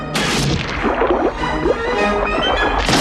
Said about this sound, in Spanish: Va rompiendo el barco a mordiscos.